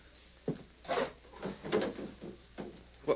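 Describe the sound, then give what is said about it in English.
A wooden table drawer is pulled open with a series of scraping, knocking bumps over a few seconds, fairly quiet, with no one talking. “take a look at that table drawer.”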